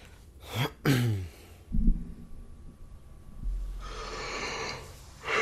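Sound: yawning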